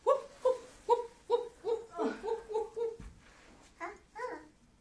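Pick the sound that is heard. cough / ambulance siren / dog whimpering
dog whimpering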